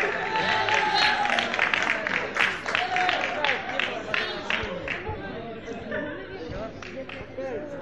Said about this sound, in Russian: Возвращайте на свои места, пожалуйста. Аплодируйте себе также.